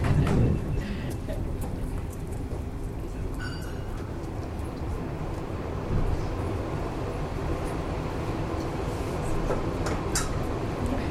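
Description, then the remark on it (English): A train rumbles past, a loud, steady low roar that fills the whole stretch, with occasional faint metallic clanks and rattles riding on top. “That's the 12:32 train to Brighton or something. I mean, too loud.”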